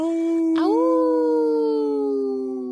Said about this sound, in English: that's where you were supposed to howl.